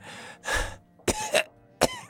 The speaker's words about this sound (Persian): شیخ که از بیماری تنگی نفس رنج می برد، نزد طبیب رفت تا برای درمانش چاره‌ای بیندیشد. طبیب، این سرفه ها امانم را بریده